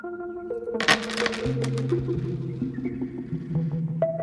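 Coins clink and jingle as they are set down and handled, handed over as a payment of five dollars, a bright metallic scatter with lingering ringing tones and a few lighter taps afterward. No one speaks.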